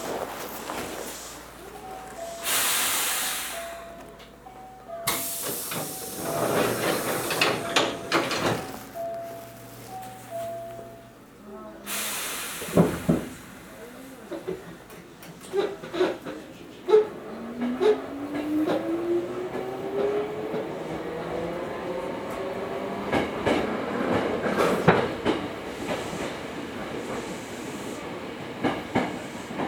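A train pulls out of a station: a short electronic chime melody and bursts of air hiss give way to rattling clunks and a rising electric motor whine as it picks up speed.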